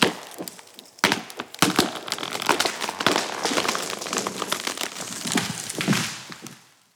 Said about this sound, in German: Die Äste werden abgeschnitten. Übrig bleibt der Holzstamm.